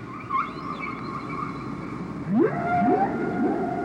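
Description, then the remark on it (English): Whale song from whales calling to each other in the ocean, with long, sliding tonal moans and upsweeping whoops, several calls overlapping against a steady underwater rumble, no voices present. “What two whales might have to say to each other, separated by 15,000 kilometers, I haven't the foggiest idea.”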